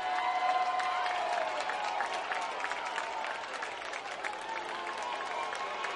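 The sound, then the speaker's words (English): A large crowd at a baseball game cheers and applauds steadily for several seconds, a dense wash of clapping and voices that stays loud and even throughout, as a dog picks up the bat at home plate after a double play by the home team, the Wood Ducks. “Everyone cheering for the dog picking up the bat at home plate.”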